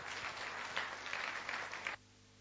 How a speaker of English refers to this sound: So let's give him a big round of applause as he comes up on stage.